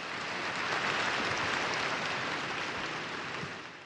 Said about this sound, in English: Only 11 Council Fathers dissented. 2,137 approved. The decree had passed. It deserved an applause.